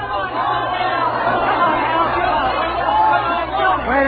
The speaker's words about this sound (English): Then came a night, long after, a nightclub in Hollywood, the crowd yelling.